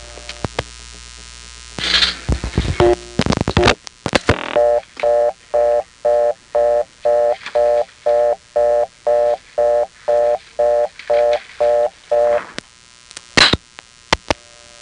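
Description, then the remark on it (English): A telephone reorder tone from a Number One Step exchange fitted with a type of tone plant most often found on Crossbar 5: a steady buzzing tone pulsing rapidly in short, even bursts for several seconds, preceded and followed by clicks and line noise. “But when a number one step has one of these, its reorder can sound like this.”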